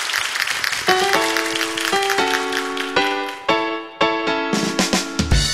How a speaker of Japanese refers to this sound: どうもありがとうございました。大きな拍手でお送りください。